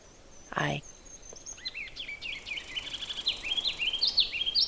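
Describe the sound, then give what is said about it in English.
A ruby-crowned kinglet moving around the branches of a large white birch sings a long series of high, thin, rapidly repeated notes that grow louder and more insistent into a trill, after a brief rustling noise near the start. “And this is a ruby-crowned kinglet.”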